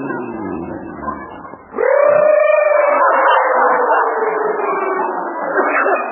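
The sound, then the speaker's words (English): A loud, sustained siren wail, voiced by a man imitating fire engine sirens, swoops up sharply and then slowly glides downward for about four seconds after a brief jumble of murmuring noise. “I can't hear your husband on account of those fire engines.”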